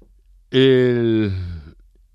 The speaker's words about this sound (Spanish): Ay, el teléfono. No pasa nada, tranquilo, son cosas del oficio.